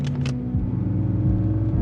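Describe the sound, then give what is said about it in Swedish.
A couple of quick clicks, then the engine of a brand-new car rumbles and the car pulls away, its low hum rising and dropping with each gear change as it drives off. “Jag körde iväg med en splitterny bil för 1,1 miljoner.”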